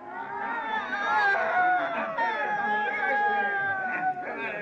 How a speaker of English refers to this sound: our transaction was interrupted by a hubbub in the street. A crowd was pelting an old woman in an effort to drive her to the outskirts. She resisted them and spat at them, cursed them in a screeching voice.